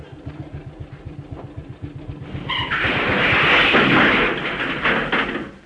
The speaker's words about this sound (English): Now, there's the steamroller. The driver's just gone to lunch. Jump up in the cabin and start it up.